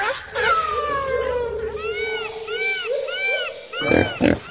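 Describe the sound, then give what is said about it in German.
A Kunekune pig in the Mühlendorf at Hellabrunn Zoo vocalizes loudly: a drawn-out whining call, then several short rising-and-falling squeals in a row, ending with two harsh, noisy grunts. “Mit einem lauten Grunzen begrüßen wir einmal mehr zum Mir san Tier Podcast.”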